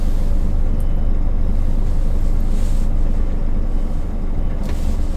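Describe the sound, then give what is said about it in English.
A lorry tractor unit's diesel engine rumbles steadily and loudly, with a couple of brief airy hisses as the unit is lowered to reverse underneath a trailer. No voices are heard. “Then I'm going to introduce the tractor unit to the trailer. I'm going to lower it for going underneath.”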